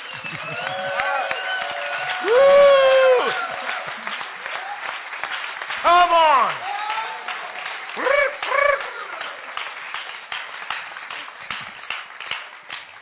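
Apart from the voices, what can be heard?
audience applause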